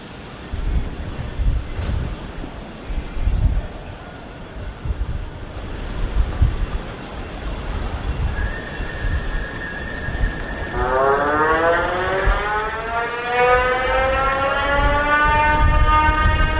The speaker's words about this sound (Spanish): Sirena sonando y él, como escuchabas, chapoteando.